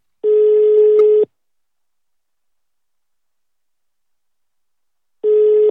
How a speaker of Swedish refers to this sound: Nu ringer vi Anna Spolander.